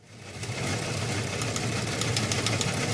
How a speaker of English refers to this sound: Well, there's that wire machine.